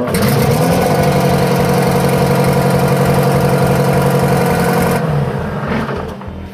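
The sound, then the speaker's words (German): The engine of an M109 self-propelled howitzer (28 tonnes, 440 hp) of the German Bundeswehr idles loudly and steadily at a training ground, a deep rhythmic rumble with a metallic whir, easing slightly in the final second and a half. “Hier hört man die Panzerhaubitze M109 mit 28 Tonnen und 440 PS.”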